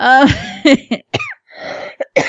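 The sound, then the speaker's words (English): Someone coughs hard several times, a rough, throaty string of bursts with a brief pause in the middle before a few more short coughs. “you gave me your cough.”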